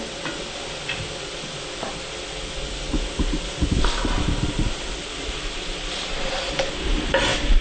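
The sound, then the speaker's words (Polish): Mushrooms and cabbage sizzle steadily in a frying pan while a utensil scrapes and stirs through them in irregular bursts, with a few louder clacks and shuffles toward the end. No one speaks. “Wystarczy ją dokładnie wymieszać, potrzymać na patelni przez może 3 minuty, żeby smak pieczarek i cebuli mieszał się ze smakiem kapusty.”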